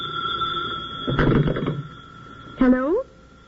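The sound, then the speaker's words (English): A telephone rings with a steady, high bell tone, broken by a brief rattling clatter midway, followed by a short rising and falling vocal sound near the end. “I'll answer that.”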